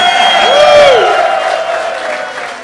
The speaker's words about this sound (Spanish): Un fuerte aplauso a la científica de la casa.